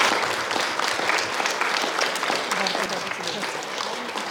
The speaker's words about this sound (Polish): Bardzo dziękujemy. Brawa, dziękujemy bardzo, brawa.